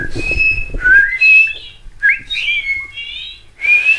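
A person whistles a melodic tune up close, with sliding, wavering notes in short phrases and brief pauses between them, over a low background rumble.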